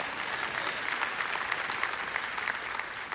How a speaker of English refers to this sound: Dude, that guy. Clap for him. He's dead, but he'll hear it maybe in heaven.